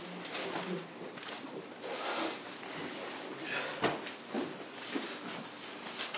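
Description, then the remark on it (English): Many Bible cover zippers being unzipped at once as an audience opens their Bibles at a preacher's request before a reading from Ephesians chapter 3, a dense, overlapping wash of zipping and rustling with a few sharper bursts, steady throughout. “If you've got your Bibles, amen, unzip them things.”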